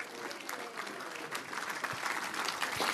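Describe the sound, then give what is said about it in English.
A crowd claps steadily for three seconds, a dense wash of many hands with scattered sharper slaps, holding at an even moderate level and swelling slightly toward the end, applauding the leadership team. “If you wouldn't mind, let's give the leadership team a round of applause for allowing us to have this opportunity this morning.”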